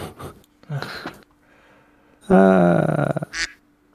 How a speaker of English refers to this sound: What the fuck was that? I was shutting the duck up.